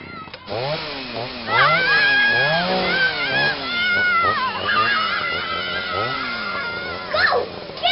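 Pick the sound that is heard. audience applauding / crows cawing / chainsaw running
chainsaw running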